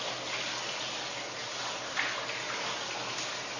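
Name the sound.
shower water running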